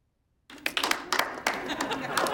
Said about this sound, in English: Things are good. I got my 30-day chip yesterday. Some of y'all weren't there, so I thought I'd give you a chance to applaud.